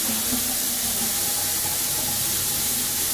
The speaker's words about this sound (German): Ja, so, ich lasse mal kurz ein bisschen Wasser laufen. Machen wir nämlich einen Sirup.